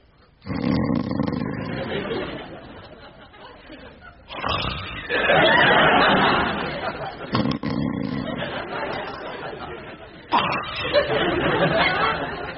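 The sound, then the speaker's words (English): A voice imitates a man's loud snoring: a series of long, rough, rasping snorts, about four in a row, each a few seconds long with brief breaks between them. “Brother Peter had a snore like...”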